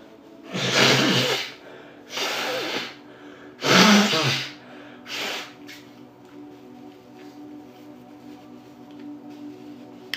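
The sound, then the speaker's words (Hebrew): Someone blows their nose in four loud, breathy honking bursts over several seconds, followed by quiet rustling and faint background noise. “רגע מקנח, עצירת כינוח.”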